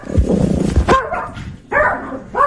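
A dog barks loudly, three or so sharp, slightly whiny barks spaced unevenly over a couple of seconds, preceded by a rough, noisy rumble.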